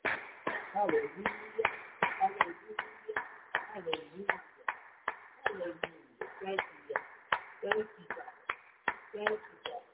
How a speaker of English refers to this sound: Let us give the Most High a hand clap of praise today.